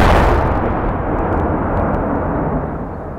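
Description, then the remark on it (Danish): A loud bomb explosion at Vesterport station in Copenhagen in July 1985 hits at once and rolls into a deep, broad rumbling roar that holds steady for a few seconds before slowly easing off. No one speaks. “Pludselig lød et sønderrivende brag.”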